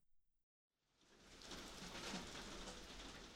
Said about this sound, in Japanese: ほら、行ってる間に、土砂降りになった。